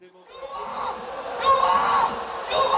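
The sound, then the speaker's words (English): A large outdoor crowd at a street election festival of colour, music and dance west of Jakarta, Indonesia, as Joko Widodo rides a horse and cart through the streets: a dense wall of overlapping voices with shouts and whoops rising out of it, loud and sustained, swelling louder partway through. “Widodo rode a horse and cart through the streets west of Jakarta as a festival of colour, music and dance swirled around him.”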